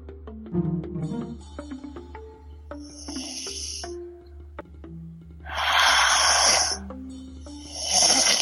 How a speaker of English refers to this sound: Oh, we can hear breathing. Wait, is that snoring? Yeah, it sounds like snoring.